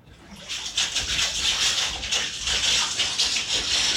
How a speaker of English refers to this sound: I'm going to get to washing our family bath towel with the leftover water we got.